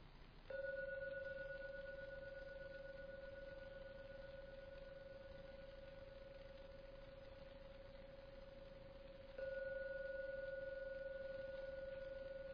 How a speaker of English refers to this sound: So now ring the gong 3 times. At the end of the 3rd ringing of the gong, it's a signal that you may come out from your meditation.